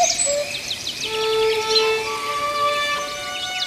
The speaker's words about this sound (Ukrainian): Жайворон літав навколо, пищав і просив, щоб кріт не чіпав його хатки, бо тоді малі пташенята загинуть.